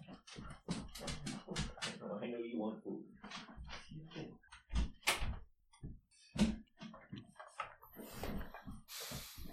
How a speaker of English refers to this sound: Yeah, one second. I'm gonna shut my door.